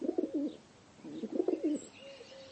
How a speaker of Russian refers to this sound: За его спиной в углу на деревянном ящике восседает белоснежный почтовый голубь по прозвищу Капитан. Наклонив голову, он с интересом поглядывает на Кольку.